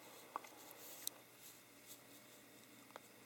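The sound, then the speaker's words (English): Soft, steady brushing of a palm with a typewriter brush, a quiet scratchy swishing with a few faint clicks scattered through it, and no voices. “You don't need a typewriter brush to do this.”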